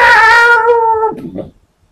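A cat lets out one loud, drawn-out yowl of pain that sags slightly in pitch, then breaks into a rough, sputtering end and falls silent.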